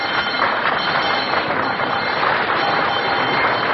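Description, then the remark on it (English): A quiz show bell rings without pause for nearly four seconds, a harsh, steady metallic rattle at constant loudness with no voices over it. “Well, there's that old bell again.”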